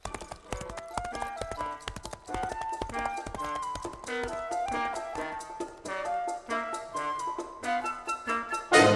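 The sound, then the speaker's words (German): Horse hooves clip-clop in a steady walking rhythm, fairly loud, mixed with bright melodic tones throughout, with no talking. “Zum Beispiel heute in Mindelheim 15 Uhr und jeder, der ein Pferd verkaufen wollte, kam dann zu diesem Ort und hat das Pferd dort vorgestellt.”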